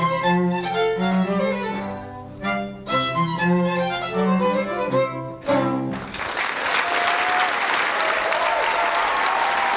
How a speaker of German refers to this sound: Es brach großer Jubel aus, dabei war das Stück an der Stelle noch gar nicht vorbei.